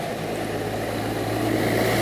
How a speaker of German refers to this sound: Das ist übrigens ein Schulbus, was hier gleich laut an mir vorbeifährt.